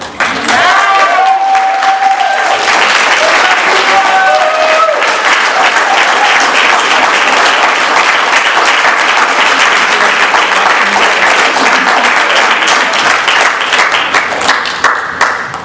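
Sustained applause at a recovery meeting for a speaker who has just shared, a dense, steady wash of many hands clapping at full volume for about fifteen seconds, with a few brief whoops or cheers rising over it near the start.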